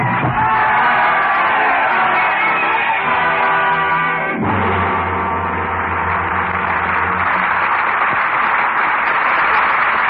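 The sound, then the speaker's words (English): A loud, dense crowd in Paris roars and yells continuously, a wall of many voices shouting at once, with some sustained tonal swells running underneath that shift abruptly partway through. “Our curtain on the roaring crowds of Paris and the sacrificial destiny of Sidney Carton, and raise it again on the stars who have made tonight's performance such a vivid memory.”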